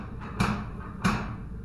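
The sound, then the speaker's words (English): A heavy door knocker on a rusted hinge is lifted and dropped, slamming down twice, about half a second apart, each a solid thud with a brief ringing decay over a low rumbling background. “I dropped it and stepped away as it slammed into place.”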